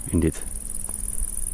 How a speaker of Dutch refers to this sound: Nee, wat we horen trouwens, krekels, dat geluid maken ze met hun vleugels, geloof ik.